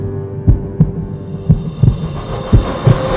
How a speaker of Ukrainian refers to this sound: Ось пульс.